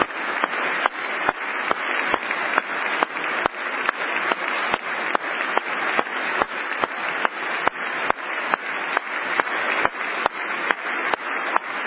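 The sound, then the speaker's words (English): Steady, continuous clapping fills the whole stretch, dense and loud, with sharp individual claps punctuating a broad wash of applause and no voices; Trump is clapping by his microphone. “Trump is clapping himself through this in addition to the...”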